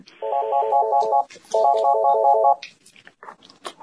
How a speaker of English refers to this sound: Sorry, I'm at work. My phone's ringing.